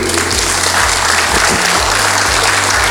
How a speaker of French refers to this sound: C'est terminé ? On peut l'applaudir.